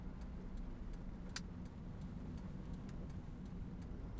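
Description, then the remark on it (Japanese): Steady low engine hum and road rumble from inside a moving hired chauffeur-driven car, constant throughout, with faint regular ticking above it and no one speaking. “下界の方が使う乗り物でございますね。ええ、お屋敷の車と比べると少々窮屈でございますね。”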